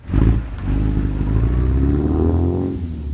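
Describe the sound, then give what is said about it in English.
An old vehicle engine, a working 1956 Ford tractor or 1967 Volvo sports car, runs with a low rumble swelling as it revs up with rising harmonic tones, then settling back, with a faint mechanical clatter throughout and no voices. “Like a working 1956 Ford tractor or a 1967 Volvo sports car that Waldeyer keeps in perfect running order”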